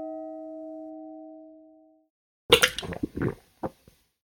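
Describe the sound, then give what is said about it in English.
A steady electronic chime tone holds and fades, then after a pause come a few wet gulps and sputtering noises of someone drinking water from a glass, ending in a couple of small clicks. “Definitely took a drink of water and caught you at the wrong place.”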